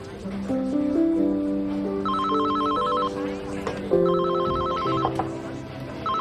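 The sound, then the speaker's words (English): A telephone rings twice with a fast electronic trill, each burst lasting about a second, clearly audible over steady background music. “He reaches for his phone.”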